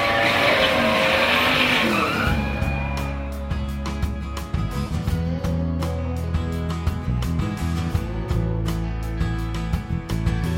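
Race car engines start and roar loudly at full throttle, with accelerators floored, beginning with a harsh screeching burst before settling into a deep, sustained growl with sharp revving spikes and no talking.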